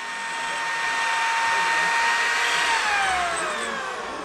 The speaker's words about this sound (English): they drill new holes straight through the frame of the wheelchair. The metal screams.